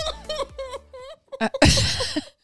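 burp

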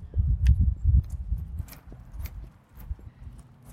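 footsteps walking outdoors

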